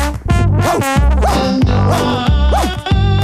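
A bouncy, upbeat cartoon song from Mickey Mouse Clubhouse plays loud and full, with a steady thumping bass line and repeated sliding, whooping vocal glides over bright instrumental backing.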